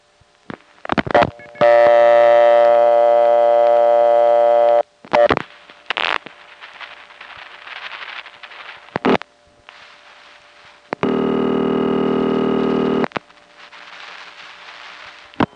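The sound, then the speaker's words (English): Telephone line sounds from a downtown Amarillo payphone in 1975 as 1 is dialed: sharp clicks and short bursts of dialing, then two long, steady, buzzy network tones lasting a couple of seconds each, with line static between them and no talking. “So here's what happened when he dialed 1 from a downtown Amarillo payphone.”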